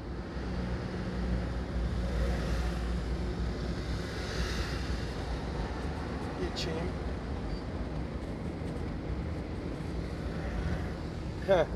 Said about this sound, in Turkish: Şimdi araba kullanıyorum ya.